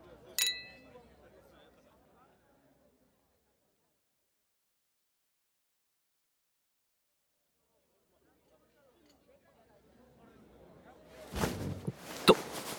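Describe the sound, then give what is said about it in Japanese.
A single bright clink of glasses in a toast rings out at the start, followed by soft background murmuring, a long quiet stretch, then rustling and a sharp clatter near the end. “では先輩の未来の素敵な人に乾杯。”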